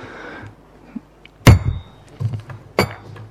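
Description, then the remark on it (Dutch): A chairman's wooden gavel strikes twice at a meeting as the minutes are adopted, a loud sharp knock followed about a second later by a second crack, with faint low rustling and shuffling around the blows. “Dan is de hamer nu gevallen.”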